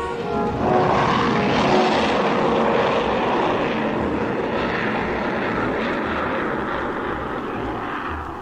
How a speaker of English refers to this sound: little more than an hour after Jet had spoken to Frank, the huge freighter passed overhead